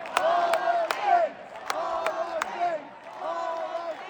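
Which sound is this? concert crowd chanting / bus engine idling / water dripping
concert crowd chanting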